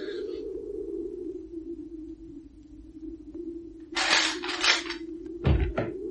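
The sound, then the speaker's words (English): Over a steady low hum, a door is unlatched and opened with a burst of bright metallic rattling from its thick door chain, followed by a dull thud and a few lighter clinks. “The chain on this door's as thick as a post and you're not getting past it.”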